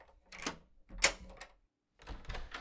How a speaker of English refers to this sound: Here, let me put my hand over yours and finish unlocking the door.